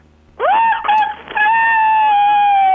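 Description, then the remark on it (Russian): A person imitates a whimpering dog with a high, drawn-out whine that swells in, briefly falters, then holds steady and loud for a couple of seconds, with no talking. “Теперь пошла собака, значит.”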